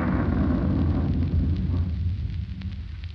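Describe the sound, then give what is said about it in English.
A deep, heavy rumble of thunder rolls on without a break, loud and booming in the low end, slowly easing off toward the end. No voices can be heard. “I don't like storms.”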